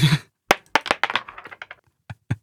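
A coin is tossed onto a table: a brief rustle, then sharp metallic clicks that bounce and rattle in a quickening, fading series, followed by two soft taps. No one speaks.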